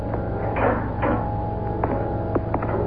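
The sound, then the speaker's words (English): A spaceship compartment door opens with a few short mechanical clunks and a sliding scrape over a steady low hum, moderately loud, with a couple of sharp knocks near the end. “Before I open the compartment door”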